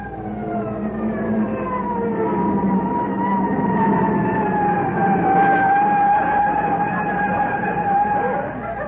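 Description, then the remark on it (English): A fire engine siren wails continuously as fire crews arrive at a fire, a loud, harmonically rich tone that slowly sweeps and drifts slightly lower in pitch, holding steady volume throughout with no voices over it. “Why, I could put out this fire with a handful of water just before those guys get here.”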